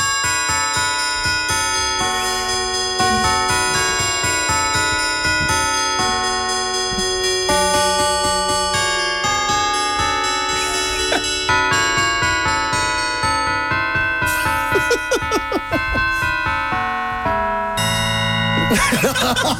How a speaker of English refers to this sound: Could you play the church bells inside Charlotte Church for us?